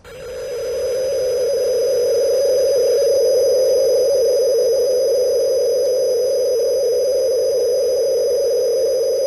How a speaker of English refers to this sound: But now they have a system called MSK, or multiple shift keying. And I can let you hear a sample of that now coming from the transmitter.